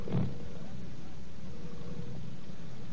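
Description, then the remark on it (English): A low, steady engine rumble from sparse street traffic in Whitehall, London, at night during an air raid warning, a few buses and cars passing, with a brief louder swell at the start and no other sounds standing out. “The roar of traffic has dwindled to the few noises that you probably hear because, of course, of the air raid warning.”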